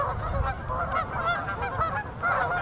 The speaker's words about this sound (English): Any of the boaters complain about the geese,